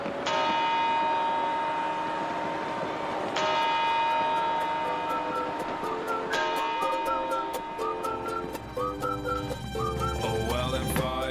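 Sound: bell chimes ringing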